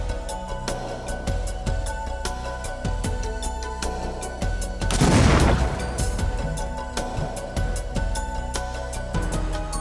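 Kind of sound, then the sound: impact, explosive package detonating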